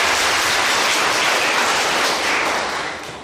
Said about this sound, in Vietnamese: Và xin cho một tràng pháo tay cho các con.